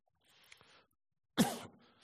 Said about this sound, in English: I love coughing. No, I try not to.